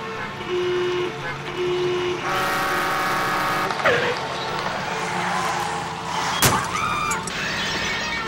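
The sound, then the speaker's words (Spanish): Busy street traffic with engines and car horns honking, followed by a sharp crash and clatter around the middle as two cars collide, then more horns and a brief shrill squeal amid continuous road noise. “El auto del elefante había chocado con el del rinoceronte y era imposible pasar por ahí.”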